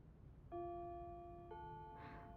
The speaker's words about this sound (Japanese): あ、チャイム。もうこんな時間？